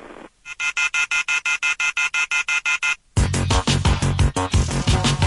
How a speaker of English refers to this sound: The telephone keeps ringing, so I ripped it off the wall.